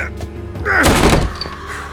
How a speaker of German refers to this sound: Die Tür war verschlossen, also ließ ich sie eine meiner Schultern spüren.